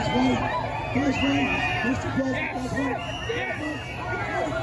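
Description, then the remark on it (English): A crowd of Trump supporters cheers and shouts outdoors as President Trump rides past in his car, waving. Many overlapping voices form a steady, fairly loud roar that keeps going the whole time without a break. “He's wearing a mask inside the car, and you have a bunch of Trump supporters outside cheering.”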